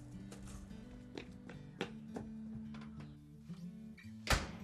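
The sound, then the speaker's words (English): A boy dashing into the house for supper slams the door shut with one sharp, heavy bang near the end, after a few softer knocks and clicks over a low, steady tonal hum. No one speaks. “what have I told you about slamming the door?”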